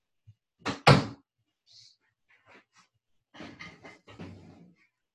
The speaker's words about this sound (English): I'm trying to close my office door.